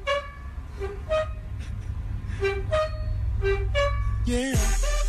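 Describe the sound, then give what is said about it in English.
A man opens and closes his own oven door in a steady rhythm, its hinge squeaking out clear, pitched tones that rise and fall like a tune, before a burst of music cuts in at the end. “He would open and close it a certain way, and it sounded just like it.”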